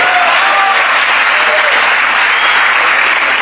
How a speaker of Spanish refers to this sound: Así que un aplauso para ustedes y un aplauso acá, por favor.